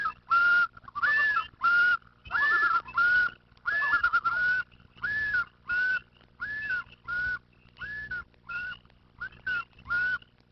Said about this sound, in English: The calls of the loon, and it has several calls in its repertoire, have come to symbolize Canada's wilderness because of their lonely, haunting quality.